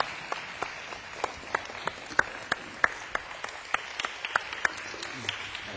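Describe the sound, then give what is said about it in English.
An audience applauds, a soft continuous wash of many hands with sharper individual claps popping out irregularly throughout. No one speaks. “Let's give him a round of applause for his generosity.”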